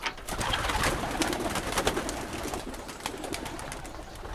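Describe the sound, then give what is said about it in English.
Several homing pigeons coo and murmur together, their soft, throaty calls overlapping in a steady, continuous chorus with light fluttering and rustling underneath. “Recent research on flocks of homing pigeons has shed some light on this very question.”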